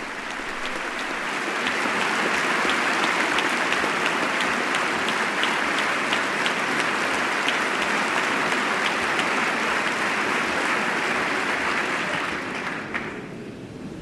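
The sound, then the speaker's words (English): A hearty round of applause from the chamber for Dikembe Mutombo, standing in the box beside the First Lady; steady and dense clapping that holds strong for about twelve seconds before quickly tapering off. No voices stand out over it. “He's quite tall and receiving a hearty round of applause from the chamber.”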